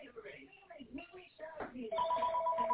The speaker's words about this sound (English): Hello? Anyway, I'm sorry, the other phone was ringing.